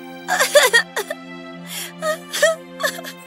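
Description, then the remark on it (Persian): Rapunzel sobs and wails in short, broken bursts with quavering, rising pitch, moderately loud over a steady low hum in the background, as she recognizes the prince and starts to cry. “راپانزل شاهزاده رو شناخت و شروع کرد به گریه کردن.”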